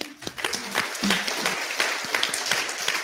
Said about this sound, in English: It's such a great cause. Give her a clap.